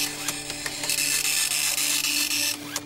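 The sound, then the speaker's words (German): A dot matrix printer, which forms letters from individual dots, buzzes and rasps in a loud, high-pitched screech, broken by brief clicks and pauses as the print head moves, with a steady hum underneath. No one speaks. “Das ist ein Matrix-Drucker, der setzt die Buchstaben aus einzelnen Punkten zusammen, wie man hier ja auch ganz deutlich sehen kann.”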